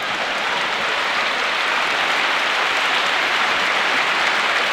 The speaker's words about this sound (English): And then they called us on stage and we walked out and I was just struck by the wall of applause.